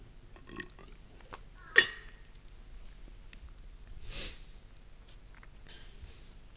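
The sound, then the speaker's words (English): Someone takes a drink of water: a single sharp clink, then a soft gulp and a breathy exhale, with faint swallowing noises over a quiet background and no talking. “Excuse me for a water break.”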